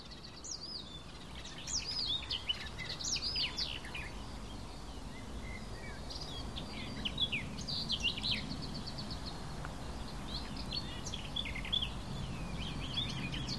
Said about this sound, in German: das war doch mal eindeutig ein Rotmilan.